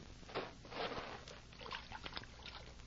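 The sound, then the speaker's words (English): Water at a water hole sloshes and splashes in irregular bursts as a man tests it, moderately loud, with soft trickling between the stirrings and no voices. “I'm going to test the water.”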